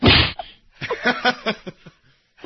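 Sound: slap sound effect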